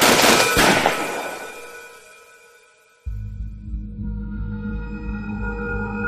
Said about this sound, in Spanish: En ese momento, el asesino sacó una pistola y los cosió a tiros.